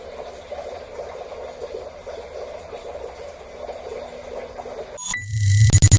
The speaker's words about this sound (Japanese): 今日は最後に暗渠の水の音でも聞きながらお別れしましょうかね。